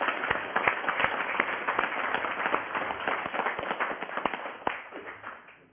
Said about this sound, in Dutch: Ja. Applaus.